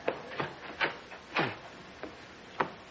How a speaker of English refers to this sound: I think that's someone at the door.